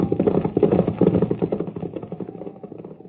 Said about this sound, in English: Listen. What? Horses. Brigands. Coming this way. We'd better hide.